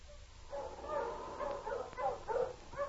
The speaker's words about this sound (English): The sled dogs increased their pace and yelped with eagerness as 2 days later, Bob and Bill neared home.